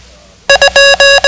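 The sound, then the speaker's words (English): A steady, fairly high electronic tone beeps the Morse code for the digit 2: two quick dots followed by three longer dashes, loud and clear with no voices over it. “The code for 2 sounds like this.”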